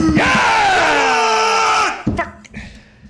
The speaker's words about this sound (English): For the people that have been tweeting and stop screaming into the mics, I'm so, so sorry about that.